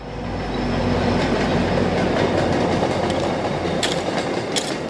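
A train rumbles past in Dorchester, Boston, by the Greenwood Street Community Garden, its wheels clattering steadily over the rails in a dense, continuous roar, with a few sharp metallic clicks and brief squeals near the end.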